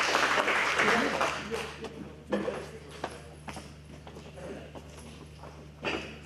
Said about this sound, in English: I'll round of applause for this gentleman, please. Thank you. Pass it over to him.